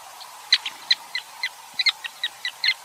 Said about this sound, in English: I'd like us to stay in Africa for another bird, the sociable weaver in Namibia.